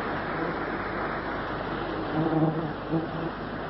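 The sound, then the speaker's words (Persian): A dense, continuous whine of mosquitoes swarming in a marsh in humid, stifling air, steady throughout with a couple of brief swells in loudness near the end, over a soft background hiss. “گذشت از هوای مرطوب خفقان آور، آنچه که نیروها را به شدت آزار می داد پشه های هور.”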